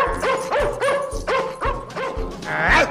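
dog snarling

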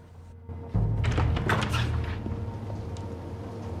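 front door being opened

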